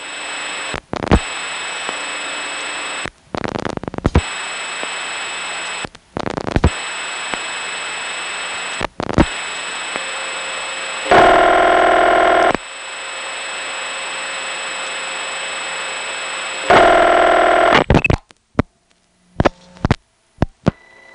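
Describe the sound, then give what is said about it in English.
A steady telephone-line hum and tone are broken by a series of sharp clicks and dropouts as digits are dialed over a telephone trunk to Dallas, with two bursts of buzzing tone midway and a quick flurry of clicks at the end. “Dial 4 more digits on this trunk, and chances are you'll be ringing someone's phone out in Dallas.”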